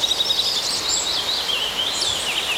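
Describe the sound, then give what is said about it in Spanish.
Many small birds chirp and twitter at once in a steady, overlapping chorus of high, busy calls, moderately loud and continuous throughout, with no one speaking, while it is snowing. “Y alguien me dijo por ahí, lo que pasa es que los pajaritos están contando que está nevando. Por eso están conversando.”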